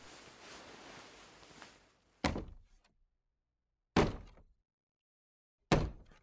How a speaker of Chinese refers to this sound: 对了，我用脚蹬这个玻璃门来发出声响，他如果走近的话，肯定能听到这里的响动。